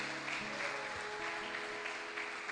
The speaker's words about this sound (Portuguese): Se você crer, dá uma salva de palmas a Jesus.